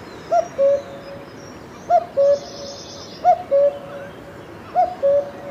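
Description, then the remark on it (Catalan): A cuckoo calls four times, each a clear two-note cu-coo falling slightly in pitch, evenly spaced, over a soft hiss of outdoor background noise. “El so del segon ocell és cu-cut.”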